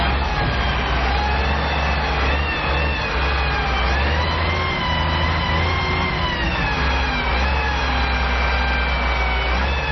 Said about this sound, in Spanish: Sonido de cinco excavadoras limpiando las toneladas de basura que se han acumulado durante cinco años en ese poblado.